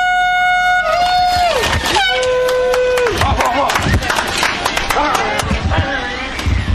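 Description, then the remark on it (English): A loud air horn blares twice to start a beginners' race, its pitch sagging as each blast fades out, then a crowd bursts into cheering and scattered clapping amid busy background noise. “Two, goes the horn.”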